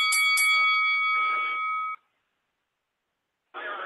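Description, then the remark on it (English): A three-minute boxing round clock bell rings out with a couple of sharp strikes, then a sustained, bright metallic tone for about two seconds, followed by silence and a short burst of noisy sound. “All right, I'm going to go ahead and play this 3-minute clock.”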